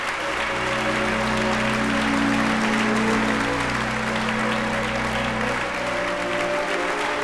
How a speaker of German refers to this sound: Und das deutsche Publikum überschüttet das israelische Orchester mit Ovationen. Ein großer Moment. Ein Triumph für das Israel Chamber Orchestra und seinem Chefdirigenten Roberto Paternostro.